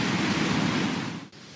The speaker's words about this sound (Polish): To jest wiatr halny. Ci, którzy mieszkają bliżej gór, znają ten dźwięk, prawda?